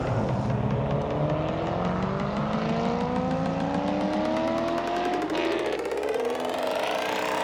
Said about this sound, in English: The taxi accelerated away from the traffic circle and brought Harvey straight to the corner of Moskovska Street and St. Leningrad Avenue.